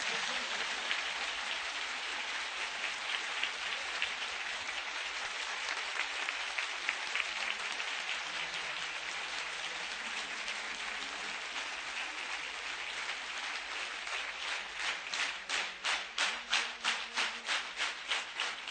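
Sustained applause from an audience honoring Imam Hassan, a dense wash of clapping that holds steady, then settles into a more rhythmic, pulsing clap in unison toward the end.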